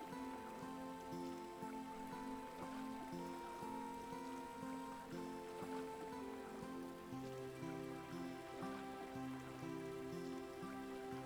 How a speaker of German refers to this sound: Du hörst nur das leichte Plätschern eines Brunnens in der Nähe.